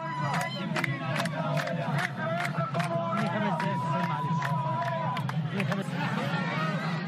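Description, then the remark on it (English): A dense outdoor crowd of villagers outside a polling station in Dakhaliya province, Egypt, murmurs and shouts continuously while women's high, warbling ululations rise above it now and then, applauding those going in to vote, loud amid the steady din of many voices. “A large crowd of villagers gathered outside a polling station in the province of Dakhaliya as women ululated from time to time to applaud those who were going in to vote.”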